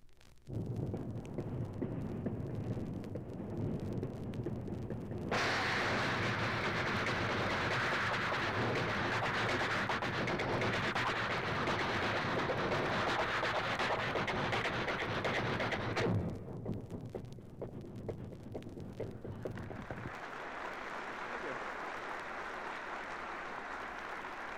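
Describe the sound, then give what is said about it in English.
A moving train, heard from its smoking platform, rumbles steadily and loudly while its wheels clatter in quick repeated clicks as they cross a switch track. Midway the sound turns brighter and harsher for several seconds, then settles back into a duller roar. “Then he reaches the smoking platform, and we listen to the wheels as they click along there.”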